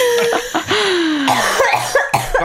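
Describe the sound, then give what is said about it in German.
A harsh coughing fit: several rough coughs in rapid succession with strained, wheezy breaths between them, loud, with no talking. “Woher kommt denn dieser Husten?”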